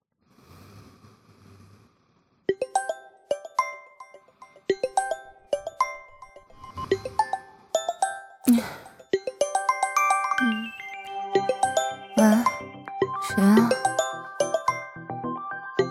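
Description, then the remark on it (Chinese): A phone rings with a bright, melodic ringtone, its chiming notes repeating steadily, while a few sharp breaths or sniffs break in over the tune; the incoming call is from the mother's son. “儿子打的电话。”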